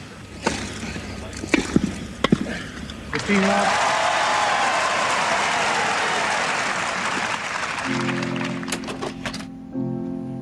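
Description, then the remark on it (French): A few sharp, scattered knocks give way to a tennis crowd at Wimbledon breaking into loud, steady applause that lasts several seconds after John McEnroe wins the first point of the match against Borg, with a voice speaking over it toward the end. “Dans les gradins, le public de Wimbledon applaudit.”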